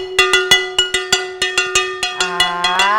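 A frying pan struck repeatedly with a spatula, played as a drum, about fifteen sharp clangs in an uneven beat, each ringing with a bright metallic tone, turning into a denser overlapping clatter toward the end.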